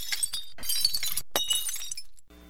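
A tall stack of ceramic bowls and plates piled in a large round-bottomed pan topples onto a cement floor and shatters in a loud burst, with several overlapping impacts and bright clinking shards scattering everywhere before it falls quiet.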